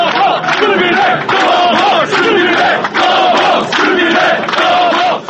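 A large crowd chants loudly in unison at a victory celebration in Serbia, repeating a short rhythmic phrase in steady pulses about once a second, the massed voices dense and continuous.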